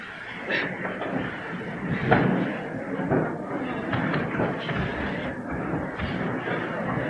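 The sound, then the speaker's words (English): A crowd rises from their seats: a steady, fairly loud wash of shuffling, creaking chairs and scattered thumps lasting several seconds, with indistinct murmuring mixed in. “And some skinny people too were standing up.”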